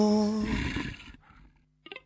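A loud, close wolf growl rumbles with a raspy, harmonic snarl for about a second, then fades to a low hum before a brief sharp sound at the end.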